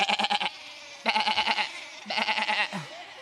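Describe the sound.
Several voices imitate sheep, letting out three wavering, quavering "baa" bleats in quick succession, each about half a second long, loud with short pauses between them.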